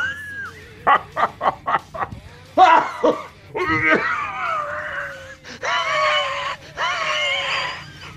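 A quick run of harsh, barking coughs, four or five in a row, then more hacking that drags into longer strained, groaning sounds, fairly loud with no talk.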